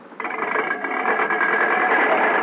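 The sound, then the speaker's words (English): A car being brought in for a sales demonstration starts up after a brief moment of quiet and runs steadily, a loud, even, buzzing hum that holds without pause to the end, with no voices. “Bring the car in.”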